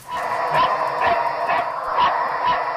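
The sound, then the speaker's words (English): Sniffer dogs bark repeatedly in a steady rhythm, roughly six sharp barks in under three seconds, loud, with a constant noisy background and no talking, as they reach a hire car while checking vehicles. “They only barked when they came to the McCann's hire car.”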